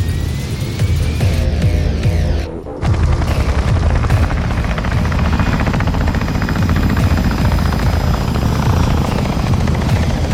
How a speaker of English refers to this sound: The Fletner lifts out of the hangar and ascends past the derelict high rises at the surface. Its rotor assemblies swivel and it flies off horizontally.